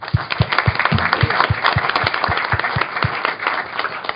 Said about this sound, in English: So I just want to give the panelists a round of applause again, just thank them.